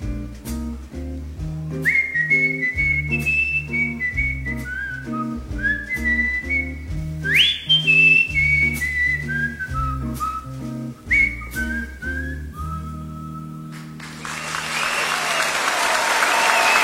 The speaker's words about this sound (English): Listen to that crowd.